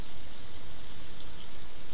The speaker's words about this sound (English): Rain always seems to be messing with us, huh?